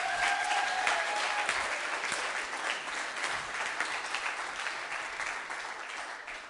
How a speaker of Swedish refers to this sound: Vi kan ge dem en liten applåd till här nu.